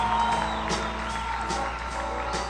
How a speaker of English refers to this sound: Round of applause for Mr. Hensley, because we're trying to flag for time right now.